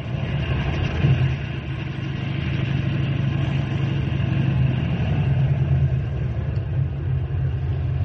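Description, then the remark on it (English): A car engine idles steadily for several seconds, a low, even rumble with a mid-pitched hum on top and no voices. The loudness barely changes throughout. “Henry, bring the car around front.”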